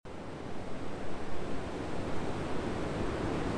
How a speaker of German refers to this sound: Unbeirrbar rollen Wellen auf den weißen Strand, Palmen wiegen sich im Wind